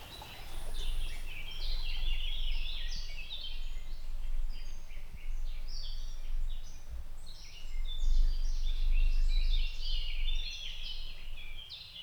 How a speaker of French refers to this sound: Seuls les oiseaux m'accompagnent de leur chant.